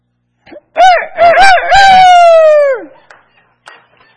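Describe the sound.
During a morning church service, a human voice loudly imitates a rooster's crow: a few warbling notes rising into one long, sustained call that falls away at the end, followed by faint background murmurs.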